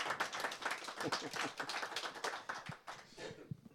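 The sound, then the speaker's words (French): An audience claps steadily to welcome a guest author at an evening event, a dense patter of many hands with a few sharper individual claps standing out, easing off slightly toward the end. No one speaks. “On peut applaudir, merci.”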